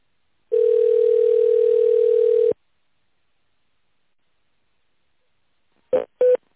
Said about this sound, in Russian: Пожалуйста, наберите в тоновом режиме добавочный номер или дождитесь ответа оператора.